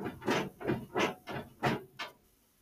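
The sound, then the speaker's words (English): A desk chair creaks in a steady back-and-forth rhythm, six scratchy, noisy creaks about half a second apart, the last one shorter and fainter, with no one talking. “I'm like going back and forth in my chair.”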